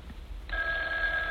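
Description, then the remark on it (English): A telephone starts ringing partway through, a steady, bright trilling tone that holds without a break after a quiet start. It sounds clear and far away, with no voices over it. “Oh, it's the phone ringing, Mother.”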